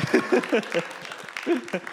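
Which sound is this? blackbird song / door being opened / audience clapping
audience clapping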